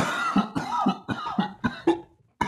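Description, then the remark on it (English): A harsh fit of coughing inside a smoke cloud in front of a gray shack: six or seven rough hacking bursts in quick succession, then a brief pause before one final cough. No speech. “coughs”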